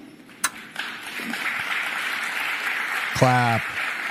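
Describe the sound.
A crowd applauds steadily, the clapping forming a dense, even wash that holds for several seconds, with a sharp smack near the start and a brief voiced shout rising out of it toward the end.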